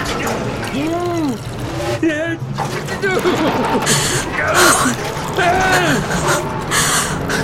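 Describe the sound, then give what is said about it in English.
Kerosene splashes out of a can in uneven, gurgling bursts as it is poured out all around a basement, while a person gasps and vocalizes anxiously over the pouring. “Pour it out all around the basement now.”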